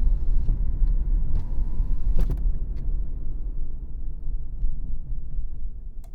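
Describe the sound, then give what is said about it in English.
A car's engine rumbles steadily from inside the vehicle while driving in road traffic that is letting up, with road noise and a few brief clicks and knocks over the continuous low hum. “Oh, thank God the traffic is letting up.”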